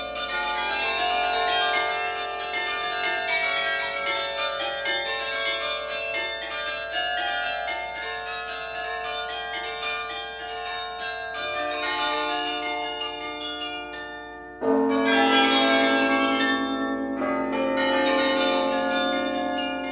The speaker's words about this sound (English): The Chimes of Delft.